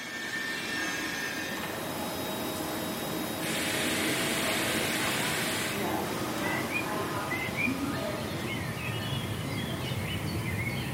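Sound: birds singing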